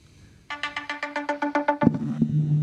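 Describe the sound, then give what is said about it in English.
A phone ringtone chimes in a quick run of about a dozen bright, evenly spaced electronic pulses, loud, then cuts off into a low rumbling buzz of the phone vibrating on the microphone. “The ding-dong of doom. Can you feel that vibrating on the mic there?”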